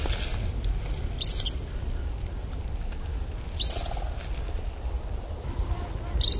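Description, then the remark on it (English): A lost young greater sandhill crane, flying by and coming back over, gives three thin, high-pitched peeping calls spaced a couple of seconds apart, over a steady rumble of outdoor wind noise. “While we were talking, he interrupted to watch a young bird fly by. See, now this guy is really lost. Look, he's coming back over.”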